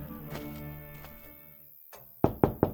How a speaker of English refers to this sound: And that night, Tonto returned to the Hornblow Ranch. After turning his pain horse into the corral, the Lone Ranger's Indian friend rapped on the door of the bunkhouse where Thunder Martin lived.